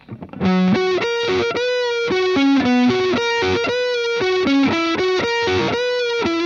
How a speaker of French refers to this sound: un lick signature slash où je vous conseille d'être en micro-manche avec un peu de reverb